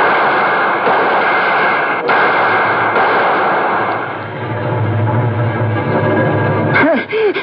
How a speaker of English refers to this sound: The next thing I heard was shots.